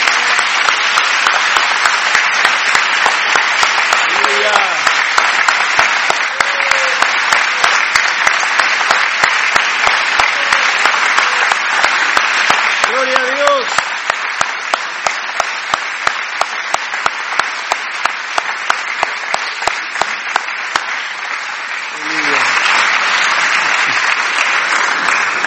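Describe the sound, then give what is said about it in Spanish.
An audience applauds God for a testimony, clapping steadily for about twenty-five seconds, a dense wash of clapping with brief cheers and vocal whoops rising through it, thinning slightly midway before swelling again. “Vamos a darle un aplauso a Dios por ese testimonio.”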